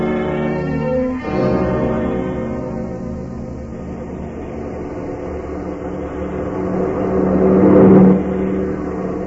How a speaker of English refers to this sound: Let me take the wheel. Okay. We swing the car around the curve a little further and head it this way.